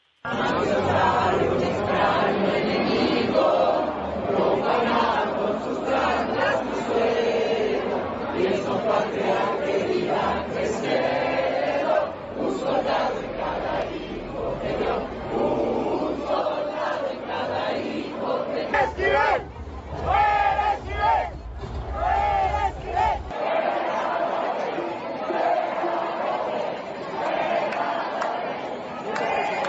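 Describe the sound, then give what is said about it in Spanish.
A large protest crowd in the Zócalo shouts chants in unison, including cries of 'fuera' against minister Yasmín Esquivel over her thesis plagiarism controversy. Loud and sustained, many voices blending into a rhythmic, repeated roar with bursts of cheering. “incluso hace un momento que hablaban de la ministra Yasmín Esquivel, ella también estuvo dentro de los gritos de estos fuera por esta polémica del plagio de su tesis. Vamos a escuchar así el ambiente.”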